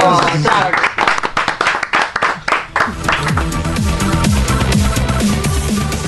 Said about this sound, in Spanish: ¡Un aplauso!